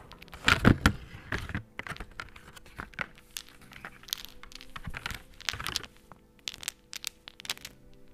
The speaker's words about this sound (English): And if you'll hear me out for a sec, I will let you listen to these batteries clicking along. Here you go.